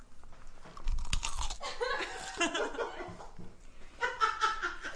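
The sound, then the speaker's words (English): A crisp crunch as someone bites into a Clausen pickle, followed by a few seconds of wet chewing mixed with soft chuckling. “The Clausen crisp.”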